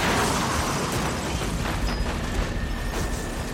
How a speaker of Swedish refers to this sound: Plötsligt dånar en smäll som är så kraftig att folk faller bakåt. Hela planet sprängs nu i bitar i en våldsam explosion.